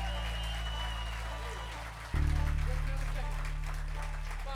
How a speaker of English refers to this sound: They're working hard for us back here and everywhere else on the grounds. They deserve a nice round of applause from all of them.